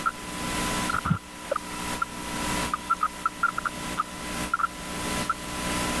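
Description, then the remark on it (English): A loud, unbroken chorus of Brood X periodical cicadas at the University of Michigan Botanical Gardens in spring 2021: a dense, hissing drone with a steady whining tone that swells in regular pulses about once a second, with short chirps scattered through it. “That's them, a hot, loud pocket of periodical cicadas at the University of Michigan Botanical Gardens.”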